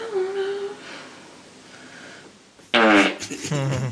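On a sleep-talk recording, a faint, wavering hum like singing fades into quiet, then a sudden loud, raspy fart erupts and sputters on for about a second.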